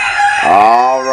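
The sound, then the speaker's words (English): A rooster crows once, loud, a strained, harmonic cock-a-doodle-doo that bends in pitch and holds to the end, with no talking over it. It is one of three pet roosters named Benny, Red and Crow. “I like to hear my roosters getting up early in the morning time.”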